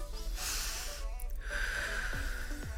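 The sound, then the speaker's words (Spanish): A deep breath drawn in through the nose, audible, filling the lungs, then released in a slower exhale, as part of a pausing breathing exercise, with no talking over it. “Tú al pausar vas a inhalar profundo por tu nariz, vas a llenar tus pulmones, llevar todo el aire hacia el vientre, porque no inhalamos completamente, inhalamos cortitos.”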